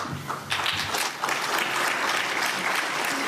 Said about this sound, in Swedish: Det är sällan man får höra en applåd också, nu när man inte har fått se så många.